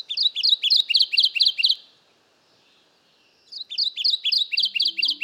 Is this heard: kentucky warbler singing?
yes